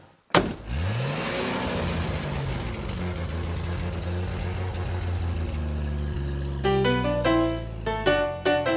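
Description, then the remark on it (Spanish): A blue classic car used as a taxi in Cuba, known as an almendrón, turns over, catches and revs, then settles into a steady rumbling drive, with a few short tonal horn-like or musical notes popping up near the end. “Esos carros clásicos que sirven como taxi se les conoce como almendrones o máquinas.”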